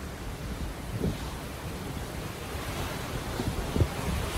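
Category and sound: ambience, ocean waves and wind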